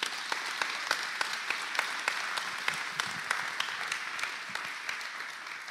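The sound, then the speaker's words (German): An audience claps steadily for several seconds for a man invited onto the stage, a dense wash of many hands with sharper individual claps popping out, sustained at an even level with no talking. “Und gib dir mal einen Applaus, weil es nicht einfach ist für ihn.”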